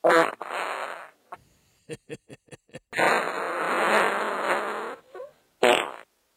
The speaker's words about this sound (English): We've recorded my farts for the past week. Much more entertaining. Much more super than rugby. Here they go.